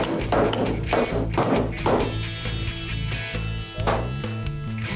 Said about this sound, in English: This is a stud gun, welds the pan right to the panel. This is the slide hammer for it. Bump it up, go ahead, slide it up.